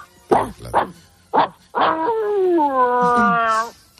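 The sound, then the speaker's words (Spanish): A person, asked for a demonstration, imitates a large dog with three short, gruff barks, then a drawn-out, wavering howl-like bark lasting about two seconds. Fairly loud, no other talk. “Bueno, mejor el ladrido es de perro de gran tamaño.”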